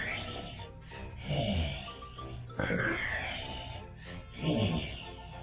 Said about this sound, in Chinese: 爬山虎不断地用手拨开那靠近脸上的物体，突然他好像听到有动物喘息的声音。